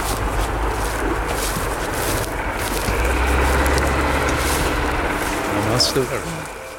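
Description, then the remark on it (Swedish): An excavator digging several metres down into a tip drones steadily with a deep, rumbling hum and broad mechanical noise, swelling slightly in the middle and rising into a brief strained whine near the end. “hur långt ner når du med grävaren?”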